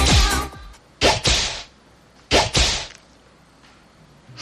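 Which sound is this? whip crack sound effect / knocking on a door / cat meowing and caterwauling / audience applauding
whip crack sound effect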